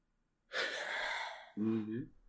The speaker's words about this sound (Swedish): Där kom någonting. Jag hör något som andas.